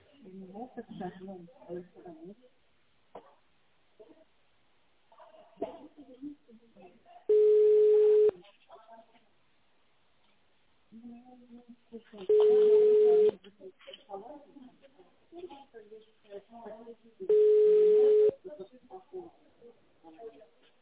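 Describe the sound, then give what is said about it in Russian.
A telephone line tone on a call to the company Modular sounds three times, each a steady, mid-pitched, fairly loud beep about one second long, repeating every five seconds with talking in between. “Если вы знаете внутренний номер сотрудника, наберите его в автональном режиме или дождитесь гудка.”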